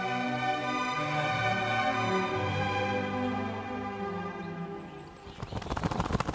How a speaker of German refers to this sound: Liebe Krähe, du kommst ja vom Himmel geschossen. Wie ein Pfeil